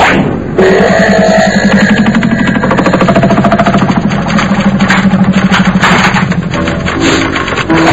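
A small scooter engine idles, a steady, loud putter with a fast rhythmic chug and a rattly edge that holds for the whole stretch without any talking.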